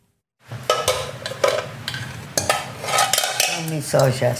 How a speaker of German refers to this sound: Die 93-jährige Dame steht in ihrem Wohnzimmer in Buenos Aires. Sie hält zwei verbeulte und verkratzte Pötte in der Hand, dreht sie, wendet sie, streicht über die Dellen und Kanten.